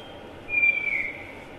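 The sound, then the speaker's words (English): An antpitta's call: a single clear, drawn-out whistled note, fairly high and steady, sounding about half a second against a faint hiss of background ambience. “Antpitas are very skulking, very secretive.”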